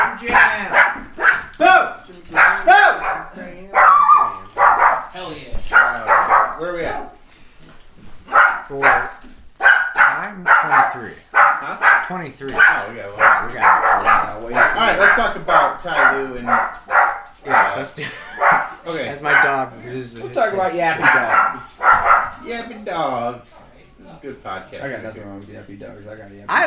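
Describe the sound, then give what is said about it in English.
A tiny female Cairn Terrier–Poodle mix dog yaps in quick, high-pitched bursts almost nonstop, loud and insistent, with people talking over and between the barks. “I got a yappy dog.”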